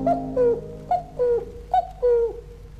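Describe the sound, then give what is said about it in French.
A cuckoo calls three times in quick succession, each call a clear two-note falling "cuck-oo", loud, with no voices over it. “J'écoute chanter le coucou.”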